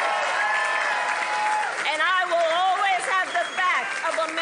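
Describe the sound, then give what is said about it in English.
A crowd applauds and cheers loudly and steadily during a Kamala Harris speech, reacting to her saying U.S. Steel should remain American-owned. Dense clapping with rising, wavering shouts and whoops layered on top, sustained for several seconds without letting up. “What was the crowd's reaction to that? That sounded like it was one of the biggest parts of Harris's speech.”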